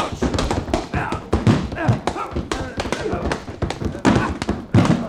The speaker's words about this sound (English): The way you're hitting him, he's gonna fall against the bar and upset those beautiful bottles...